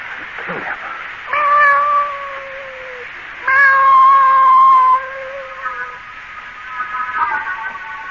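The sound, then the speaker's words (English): A cat yowls in two long, drawn-out caterwauls, loud, followed by a fainter, shorter meow near the end, as it is being brought inside. “I'm bringing this cat in here.”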